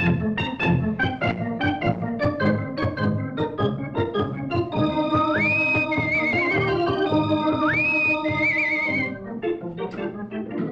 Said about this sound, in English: Here we go with Rusty Riley. Gallop and run till the road is dusty. Give us music for his horse and Rusty.